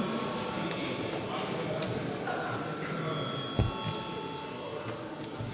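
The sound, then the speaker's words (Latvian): A continuous electric bell rings steadily and echoes, calling deputies to register with voting cards at a parliamentary session. Its rattling clang is sustained at moderate volume for several seconds, with a brief knock partway through. “Lūdzu zvanu reģistrācijai.”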